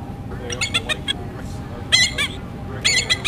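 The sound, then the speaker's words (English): A bald eagle's call, played by pressing a button on a bird-sound card: three bursts of rapid, high, piping chirps and twittering notes, over a steady low rumble of background noise. “I'm going to press a button for the bald eagle call.”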